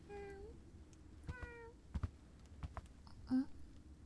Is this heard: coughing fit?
no